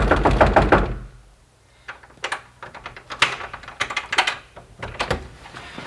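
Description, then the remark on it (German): Urgent knocking on the locked door of a wife's boudoir, in several quick, uneven bursts of sharp raps, fairly loud, following a short rumbling noise at the very start. No one speaks. “findet er das Boudoir seiner Frau verschlossen. Eloise! Eloise, mach auf!”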